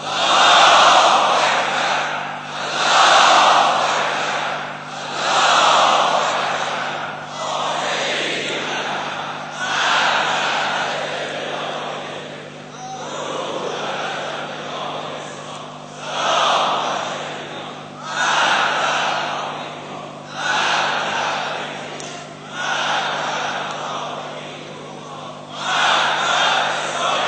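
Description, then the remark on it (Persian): A large crowd chants the takbir in unison, loud rhythmic bursts of shouted voices rising and falling roughly every two to three seconds, repeating the same religious cry over and over. “این فریاد رسای همه مردم ماست و تکبیر امروز اونها هم نشون دهنده همراهی با این نظره.”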